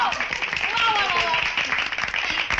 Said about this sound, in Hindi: तालियां।